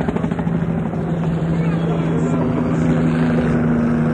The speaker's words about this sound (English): One helicopter now is in real low. Military police helicopter.